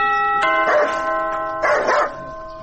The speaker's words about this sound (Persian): تو باش که یک دفعه می زنگ دروازه را بزنم.